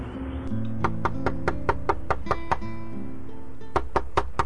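Sharp, insistent knocking on a door: a quick run of about eight evenly spaced raps, a brief pause, then four more, all over a steady humming tonal background.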